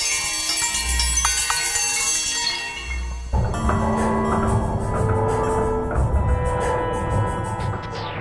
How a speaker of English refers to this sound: The sounds of the neighborhood, like the reggaeton music of the West Indies auto body shops, he kind of takes them and then filters it through some device that makes it sound like bells.